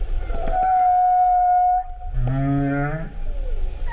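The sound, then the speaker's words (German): Whale song: a long, steady tonal moan holding one pitch, then a lower, richer call that slides and wavers, over a constant low rumble of water. “Deswegen ist das oft in ganz tiefen Frequenzen, die werden dann durch das Wasser ganz weit getragen.”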